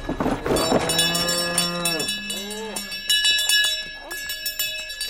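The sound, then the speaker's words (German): Cows moo in long, drawn-out calls, one after another, while many cowbells clang and jingle steadily throughout, fairly loud, with faint voices mixed in, as farmers of the Burgergemeinde Scharnachtal bring their cows up to an alpine hut for the summer one morning. “An diesem Morgen bringen sie einen Teil von ihren Kühen für über den Sommer hier rauf.”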